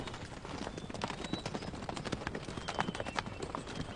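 Horse hooves clip-clop steadily, a busy run of overlapping hoofbeats on hard ground with no voices, the clatter dense and continuous throughout.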